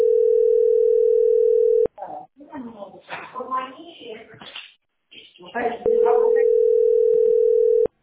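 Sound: telephone ringback tone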